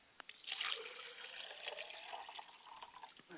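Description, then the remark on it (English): Liquid is poured out as a libation for a mother's spirit, in a steady, splashy trickle for a few seconds, fairly soft, with no voices over it. “I pour libation for my mother's spirit, and I say, Ashe.”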